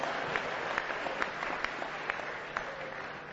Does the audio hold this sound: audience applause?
yes